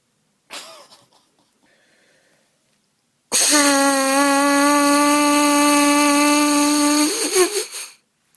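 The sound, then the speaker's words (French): A short intake of breath, then lips buzz into a trumpet mouthpiece alone, a breathing exercise using abdominal breathing to hold the note as long as possible: a loud, steady, nasal drone held for about four seconds before it wavers and cuts off. “quand on sait faire l'abeille dans l'embouchure”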